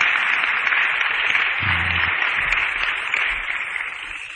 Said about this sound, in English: Hey, I heard one lady start to clap a little bit. Any other ladies like to join them?